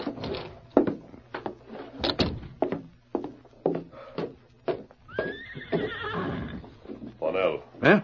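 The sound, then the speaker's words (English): A sequence of sharp knocks, like hooves clopping, is followed by a loud whinny from a saddled horse that rises and then trails off in a wavering, descending call. “There's your horse all saddled and waiting.”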